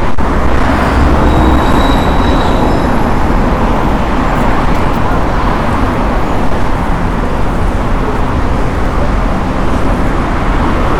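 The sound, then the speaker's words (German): Steady, loud roar of traffic on a busy main road by the Moskauer Bahnhof railway station, with vehicles rumbling past continuously, a dense low drone filling the whole scene with no voices. “Und ihr seht, ich gehe an einer ziemlich stark befahrenen Hauptstraße vorbei, ne?”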